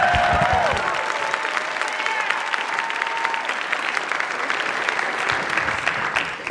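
An audience applauds steadily for several seconds, a dense, bright wash of clapping that stays loud throughout, with a few faint whoops or cheers rising briefly near the start.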